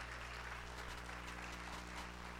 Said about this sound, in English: Come on, somebody give the Lord a good hand clap this morning.